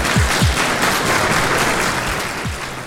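crowd, applause

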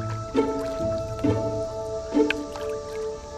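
vehicle, canoe paddling through water

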